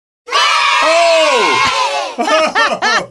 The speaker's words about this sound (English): I love the cheering section